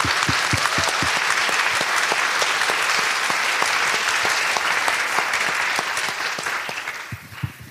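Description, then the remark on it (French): An audience at the Boys Club event of the Frames Festival in the Palais des Papes applauds a guest with a dense, steady patter of many hands clapping, loud and sustained for several seconds before thinning out and fading toward the end. No one speaks over it. “Oui, bravo. On peut l'applaudir.”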